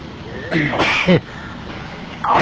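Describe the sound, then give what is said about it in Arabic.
A single sneeze bursts out, a short sharp breath followed by a louder explosive release, with quieter background noise and a brief voice sound at the end. “الحمد لله، يرحمكم الله، يهديكم الله ويحسن بالكم”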